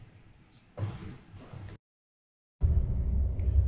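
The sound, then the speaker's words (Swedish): Steady low engine rumble inside a bus driving on the way to Oslo, loud, broken by a brief stretch of total silence before the droning noise returns even stronger. “Vi sitter i bussen på väg till Oslo.”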